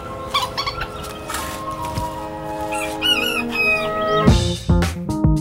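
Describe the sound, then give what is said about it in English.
Melissa Harris-Perry's backyard hens cluck and squawk in a coop in the early-morning dark, with layered, overlapping calls and a few sharper crowing-like cries, steady throughout without any talking. “And no matter what time you're listening to me, you can be sure that I have been up for hours because I have chickens.”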